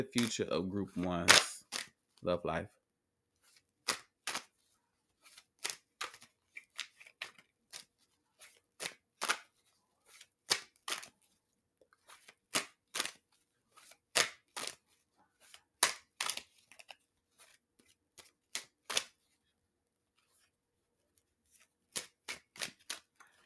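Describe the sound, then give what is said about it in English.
A short burst of talking, then a deck of tarot cards being shuffled during a tarot reading: crisp, irregular snaps and riffles, fairly loud, separated by brief quiet gaps. “I really like to shuffle my cards.”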